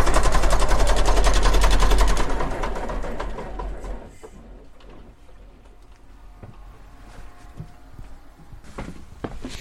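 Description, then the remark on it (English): A ship's engine built in 1964 hammers loudly in the engine room with a deep, rapid pulsing rumble, then winds down over a couple of seconds as it is shut down, leaving a quieter background with scattered knocks and clicks. “Right, let's head out of the engine room now and conduct ourselves in a bit of peace and quiet on the rest of the tour.”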